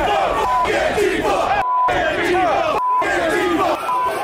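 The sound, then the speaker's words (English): A large crowd of Trump supporters advancing on the Capitol roars and chants continuously, many voices shouting over one another at high volume, with brief abrupt cuts to silence between bursts. “With those orders, the crowd of economically anxious insurrectionists advanced on the Capitol.”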